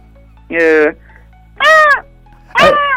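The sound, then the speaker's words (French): A person imitates a seagull (gull), letting out three loud, nasal, wailing cries spaced about a second apart, each rising then falling, with quiet pauses between them. “Alors, donc, nous, en Bretagne, c'est plutôt la mouette, le goéland, tu sais faire ça ou pas?”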